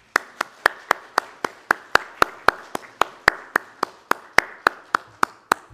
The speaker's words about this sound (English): I think it would be appropriate at this time during the announcements before worship to turn and recognize our musicians with a round of applause.